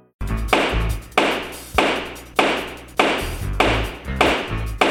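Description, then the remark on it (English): A gavel pounds down hard six times at a steady, deliberate pace, each loud wooden strike ringing briefly before the next blow, struck with authority for the All Rise for Judge Donnie segment. “Man, Jeff's really pounding the hell out of that gavel.”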